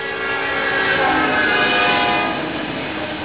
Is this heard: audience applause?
no